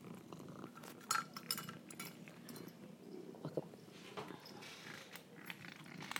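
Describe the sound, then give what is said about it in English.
Crunching of Shinky, a cat, chewing hard dry dental kibble in pieces about as big as a thumbnail, irregular crisp bites with occasional light clinks against a bowl, steady and fairly quiet with no talking. “That is Shinky eating.”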